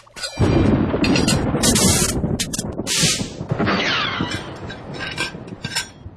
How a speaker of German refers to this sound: Das war das Geschirr.